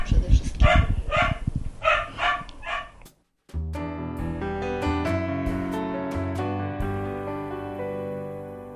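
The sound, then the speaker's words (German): A dog barks loudly, a quick string of about eight sharp barks over three seconds; the dog has waited in the next room and needs to go out. It breaks off and a stretch of music takes over. “Der Hund muss raus. Schließlich hat er im Nebenzimmer nun lange genug gewartet.”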